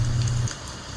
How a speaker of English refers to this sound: But I also remember the wind. The sound of the wind. And the rain.